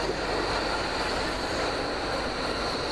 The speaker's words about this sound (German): Behold, U-Bahn. DT5 würde ich sagen.